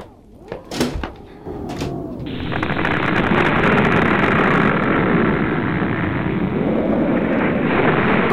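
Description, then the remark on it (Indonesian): A few sharp knocks and thuds open the scene as a house's doors and windows shake, then a fierce typhoon wind surges in and roars loudly and continuously, a dense howling rush that never lets up. “Angin topan ini mengerikan sekali, Pak.”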